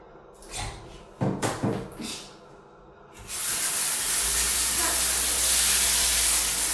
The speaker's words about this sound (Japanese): じゃあちょっとね、汚しちゃったのでシャワーで洗い流したいと思います。